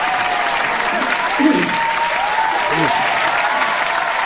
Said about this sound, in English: you didn't expect our fans to go quite that wild for you. They never forget a face, man. They were pumped you were here today, brother.